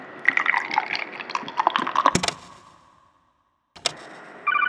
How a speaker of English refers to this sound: I'm pouring one out for you, man.